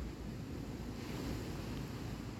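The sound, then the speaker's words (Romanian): Steady ocean surf rushing and washing continuously, a broad roar of waves with a wind-like hiss, even in loudness, with no voices. “Ascultă valurile”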